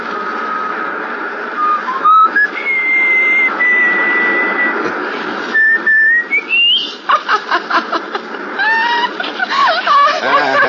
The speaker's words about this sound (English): Can you whistle? Sure. Whistle. Yeah, I know just the tune.